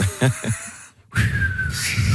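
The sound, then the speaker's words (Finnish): Someone whistles and blows breathily to mimic wind howling at a swimming beach: a short airy burst, a pause, then a longer steady gusting whistle with a faint sliding tone, fairly loud. “Uimarannalla tuuli vaan ujeltaa.”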